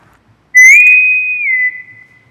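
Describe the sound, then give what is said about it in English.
A loud, shrill bosun's whistle sounds a single sustained high note, rising slightly at the start and dipping a little before cutting off after about a second. “That's the bosun whistle.”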